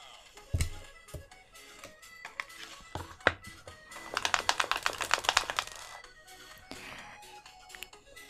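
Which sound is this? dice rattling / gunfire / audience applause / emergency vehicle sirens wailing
dice rattling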